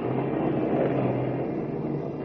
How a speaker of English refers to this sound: Lois and Horn in Kent's car are laboriously climbing up and down the winding mountain road, fighting their way through a heavy rainstorm